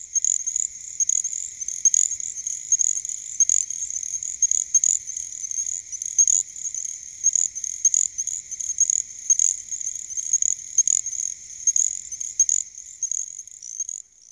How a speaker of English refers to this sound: In contrast, our smallest native frog, the little grass frog, grows to only 3/4 of an inch long and makes exceedingly high-pitched cricket-like calls.